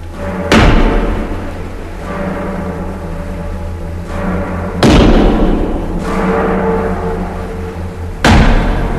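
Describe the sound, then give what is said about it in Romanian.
A hammer strikes a metal shackle three times as the shackle is fastened around a person's arm, heavy blows spaced a few seconds apart, each leaving a ringing metallic decay over a steady low rumble. No one speaks. “Dă tare cu ciocanul, fere că-l destângi.”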